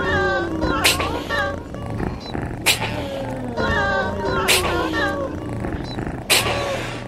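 A cat's drawn-out meows rise and fall repeatedly over a steady hip-hop beat, with sharp percussive hits punctuating the loop at regular intervals, loud and up front.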